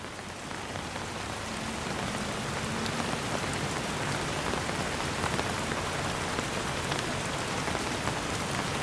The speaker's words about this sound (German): Der Regen wird stärker und du ziehst deinen Mantel etwas enger.